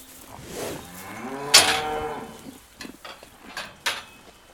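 A cow moos loudly, a long low call with a rising harmonic sweep, followed by a few scattered clanks and knocks as straw and leftover pea plants are put into the cows' feeding troughs.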